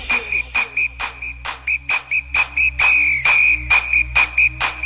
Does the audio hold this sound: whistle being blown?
yes